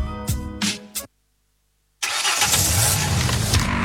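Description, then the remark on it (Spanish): A car engine cranks in a few quick stuttering bursts, falls silent for a moment, then catches and runs with a steady, loud rumble. “¿Tu auto te está mandando señales? ¿Ese ruidito?”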